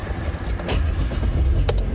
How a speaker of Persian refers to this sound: پس ماشین رو روشن میکنیم و دوباره باید بریم مهمون آقای عطارزاده بشیم دیگه.